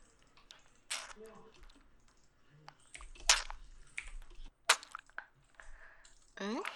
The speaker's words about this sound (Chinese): 在干嘛？吃糖呀。刚不是给你发了照片吗？现在吃的糖啊，就和照片里面我放进去的棒棒糖是一个口味呢。